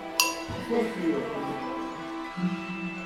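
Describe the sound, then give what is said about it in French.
A small hand bell gives one bright metallic clink, then a faint ringing tone lingers as it is handed along a line of players in a game where it must be passed without making noise, with soft rustling and quiet voices murmuring underneath. “On doit passer la cloche sans faire de bruit.”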